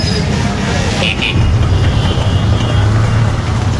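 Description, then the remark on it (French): A Royal Enfield motorcycle engine rumbles loud with a steady low throb in a busy bazaar street, set against street noise and a murmur of voices. “Il y a une moto Enfield là.”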